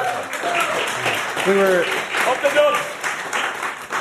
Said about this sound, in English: He deserves a round of applause. Yeah, come on.